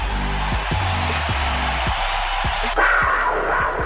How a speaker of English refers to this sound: Here will come Blake Bortles. You will hear the crowd. You hear them already. It's a standing ovation, folks. It's a standing ovation. Listen to the crowd. I'll let them tell you.